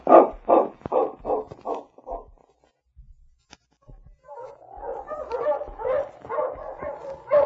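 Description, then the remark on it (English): Sergeant Preston's sled dog team barks as he stops it: a quick run of about seven sharp barks, a short pause, then a dense, overlapping chorus of barking and yipping from several dogs. “Sergeant Preston stopped his dog team and walked toward Chuck's cabin.”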